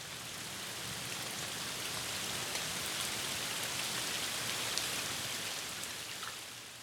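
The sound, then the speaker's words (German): Heavy rain pours steadily in France over the flooded Seine, a dense, continuous hiss of drops with faint scattered pattering on a surface, no voices, holding an even loudness throughout. “Claude Monet steht im strömenden Regen und schaut auf die Wasserfläche.”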